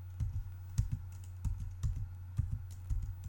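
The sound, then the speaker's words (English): Keys clatter on a computer keyboard in quick, uneven bursts of clicks, fairly quiet, with a steady low hum underneath and no one talking. “Hold on, I'm trying to find it as you can hear me typing.”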